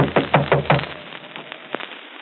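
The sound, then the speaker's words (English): Four quick, firm knocks on the wooden door of Uncle Everard's bedroom in a steady rhythm, followed by a few fainter, scattered raps, with no voices. “Better knock harder.”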